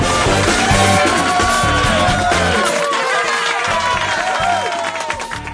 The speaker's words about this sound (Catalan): Ara, gràcies pels amables aplaudiments.